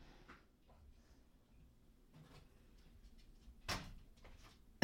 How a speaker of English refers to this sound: Oh, and the door shut?